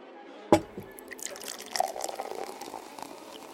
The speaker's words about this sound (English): The man walked over to one of his bookshelves and produced a thermos with two small glasses. He opened the thermos and poured a sweet-smelling liquid into both the glasses.